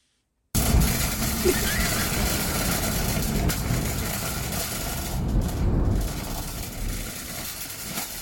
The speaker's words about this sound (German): Regen. Also wenn sie so Regen anhört, na puh. Was ist das? Ich sagte doch. Wenn man es zusammenhanglos hört, weiß man nicht, was es ist. Du hast es selbst aufgenommen? Ja.